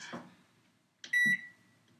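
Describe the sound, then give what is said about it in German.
A microwave oven gives a single sharp electronic beep, loud, just after a soft clunk; another muffled thump comes earlier, and it is otherwise quiet with no talking. “Okay, wir dürfen jetzt nur noch Effekte nutzen. Mikrowelle.”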